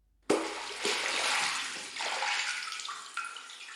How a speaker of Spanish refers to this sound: El agua hace chop, chop.